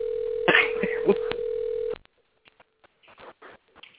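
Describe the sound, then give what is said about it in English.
A steady telephone dial tone hums for about two seconds as someone makes phone calls, interrupted by a few quick keypad beeps, then cuts off, leaving faint rustling and muffled movement. “I'm trying to make some phone calls here.”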